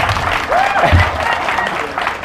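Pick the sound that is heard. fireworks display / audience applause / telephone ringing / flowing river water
audience applause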